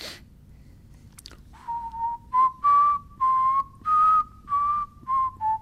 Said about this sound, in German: Kannst du bitte den Anfang der Europahymne singen? Ich könnte ihn pfeifen. Mach mal.